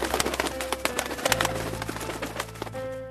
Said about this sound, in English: Just then, the flock of beautiful white birds with long, slender necks returned and landed on the pond.